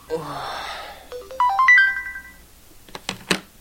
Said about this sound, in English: hears the alarm that's supposed to wake him up, and he shuts it off. This happens again at 7:35, and again at 7:40.